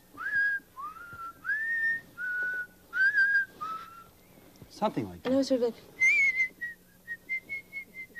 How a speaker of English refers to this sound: You see, I was whistling at them like this.